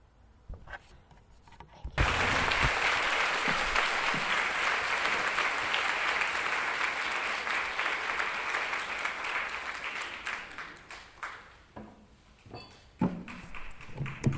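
Applause from an audience for a singer after a Christian song bursts out suddenly and holds steady as a dense, crackling wash of clapping, then thins into scattered claps and a few knocks before fading.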